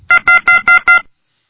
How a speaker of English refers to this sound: What is that beeping sound? Hold on, let me see.